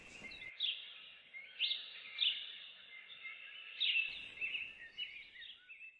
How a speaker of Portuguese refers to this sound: Legal, né? Ser acordado com o canto de um pássaro.